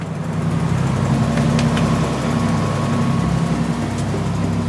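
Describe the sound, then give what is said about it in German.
An old boat engine, on a roughly 10-metre boat belonging to an orca research organisation, drones steadily at sea, a loud, continuous low rumble with a throbbing hum that holds unchanged throughout, with no voices. “Wir sind auf dem Boot seiner Organisation, das ist schon ziemlich in die Jahre gekommen, das ist so vielleicht knapp 10 Meter lang”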